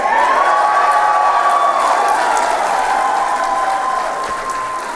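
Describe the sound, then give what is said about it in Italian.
A crowd of supporters applauds and cheers Paul Gatwin on election night, steady dense clapping mixed with shouts and whoops that holds loud throughout, easing slightly toward the end. “Gli applausi a Paul Gatwin dei suoi sostenitori.”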